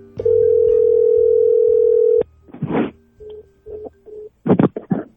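A loud, steady telephone dial tone holds for about two seconds, then cuts off into crackly line noise, short electronic beeps and clicks as a phone call to the Georgia Innocence Project connects.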